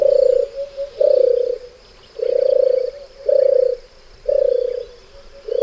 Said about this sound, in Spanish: Escuchamos también el arrullo, el turtur de la tórtola. Sí, la turturel. Aquí ahí viene. Está. Turtur.